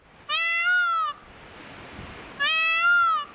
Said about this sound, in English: Have you ever thought a fox cry sounded like a woman's scream? Or a peacock's call like a cat's meow?